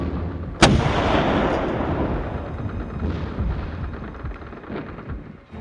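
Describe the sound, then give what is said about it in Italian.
Artillery fire covering a company advancing up a slope during a counterattack: one sharp, heavy blast cracks out and rolls into a long, deep rumble, with fainter booms thudding beneath the sustained roar. No one speaks. “Il resto della compagnia è qui sotto e avanza sul pendio protetto dal fuoco dell'artiglieria.”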